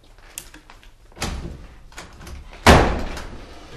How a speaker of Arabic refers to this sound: تقدر تحل الباب وتتفضل.